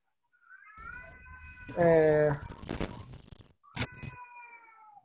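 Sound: child crying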